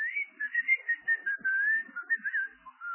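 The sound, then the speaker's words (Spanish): A whistled answer from a pair of underpants fitted with a small alarm that responds to a whistle: a clear, wavering tune rising and dipping in short bursts for a few seconds, moderately loud, with no voices. “Y el calzoncillo le contesta con otro silbido.”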